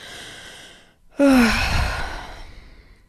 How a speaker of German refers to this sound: Die Schilder kommen näher, die Kilometer werden weniger nach Hamburg und dein Atem wird immer schneller. Zwischendurch musst du richtig schwer atmen.